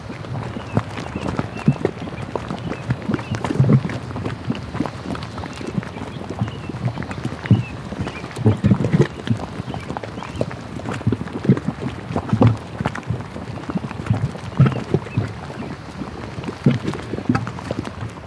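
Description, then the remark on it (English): Thick mud in the thermal mud pots at Fountain Paint Pots bubbles and plops without pause as heat and gases are released through it, a dense, irregular patter of low gurgling pops and wet bursts that stays fairly steady throughout, with no voices. “One of my favorite things to record are the mud pots. And so this next recording is fountain paint pots.”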